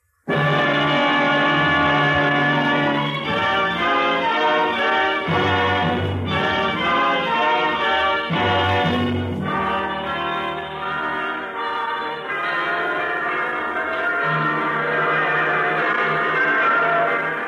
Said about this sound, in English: The bells are ringing throughout the land this week. Hundreds of bells, thousands of bells, tens, perhaps hundreds of thousands of bells.